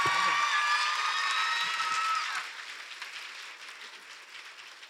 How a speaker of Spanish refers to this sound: Oigan, un aplauso por esa interpretación, por favor.